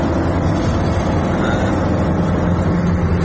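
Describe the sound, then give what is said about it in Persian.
Steady, loud low rumble of a heavy military truck carrying a missile rolling by, continuous throughout with road noise and no clear rise or fade, no voices. “دوباره یه ماشین دیگه حامل موشک هستش.”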